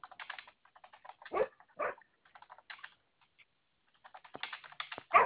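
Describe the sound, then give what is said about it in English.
A dog, Milo, lets out a few sharp barks, spaced apart, while steady keyboard typing clicks along in the background. No one speaks. “What are we barking at?”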